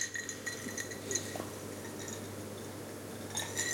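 Drinking glasses clink together several times in short, dull taps, scattered unevenly over a few seconds against a low steady hum, with no one speaking.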